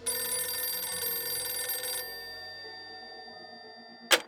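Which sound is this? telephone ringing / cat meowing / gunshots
telephone ringing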